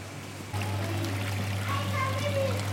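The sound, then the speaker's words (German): Water bubbles and trickles steadily from aquarium tanks in a room with many pipes on the ceiling and walls, joined partway through by a constant low hum of quite large pumps that move the water and supply oxygen, with faint voices murmuring in the background. “Man hört Blubbern aus den Becken.”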